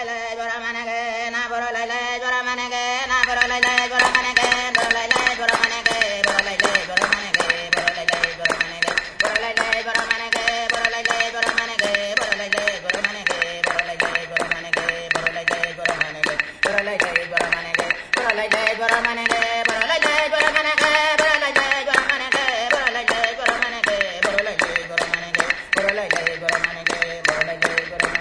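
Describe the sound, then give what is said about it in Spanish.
Aboriginal voices from Northern Australia chant in a sustained, melodic line, recorded at the Festival of Traditional Arts in Ghent, while a steady, rapid beat of hand claps and hard-wood clapsticks runs underneath, starting after a few seconds and continuing throughout. “Está acompañado de palmas, de golpes con palos, de madera dura, de percusión.”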